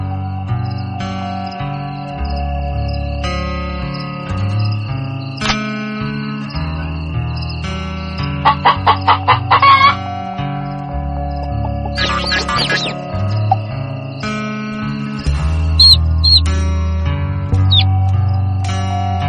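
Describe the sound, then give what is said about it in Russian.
Chickens on a farm at night cluck in short bursts of quick, repeated pulses, popping up a few times over a steady, gentle musical backdrop, with no one talking. “Спокойной ночи, дорогие цыплята.”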